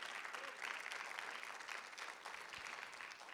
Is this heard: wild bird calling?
no